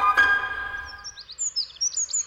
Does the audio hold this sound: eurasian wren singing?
yes